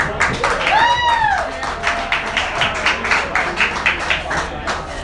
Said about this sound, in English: We won, they're clapping. Of course. That works.